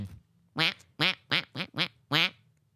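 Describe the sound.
A voice imitates a duck call, giving six loud, nasal quacks in a quick, fairly even rhythm, with brief quiet gaps between them and no talking.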